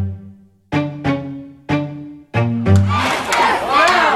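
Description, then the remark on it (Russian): A crowd of protesters at the Capitol, people crawling up its steps, chants the slogan "Access now" (and "ADA now", for the Americans with Disabilities Act) in loud, rhythmic bursts of shouted syllables, about five strong beats, before the voices dissolve into a swelling roar of overlapping yells and cheers. “Они кричат «Access now» — «Доступ сейчас», а еще «ADA now».”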